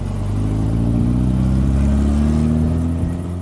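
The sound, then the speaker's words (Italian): A car engine hums loudly, its pitch climbing steadily as it accelerates over a few seconds, with no voices present; one of many cars queued on Italian roads in torrid late-August heat. “Tra le tante macchine incolonnate ci siamo anche io e la mia ragazza.”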